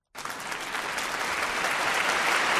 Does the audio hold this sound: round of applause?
yes